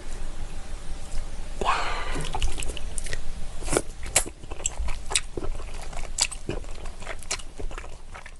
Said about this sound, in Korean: 와, 네. 이 중국 당면 씹는 소리가 네. 네, 저도 먹어봐서 알겠지만 와, 이 정말 맛있어 보입니다. 쫀득쫀득한 네. 맛이다.